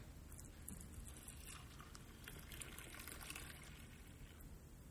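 Liquid is poured steadily into a communion cup, a soft continuous splashing trickle lasting several seconds, moderately quiet, with no voices.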